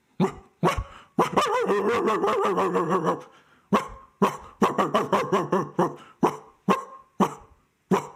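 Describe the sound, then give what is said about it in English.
A dog gives alarm barks signalling a lion, barking repeatedly and urgently, sharp barks mixed with sustained growling, lower-pitched howl-like stretches in between, ending in a steady run of single barks, loud with no one talking. “Still lots of barking, but kind of in the absence of a lot of the upturning and high pitches.”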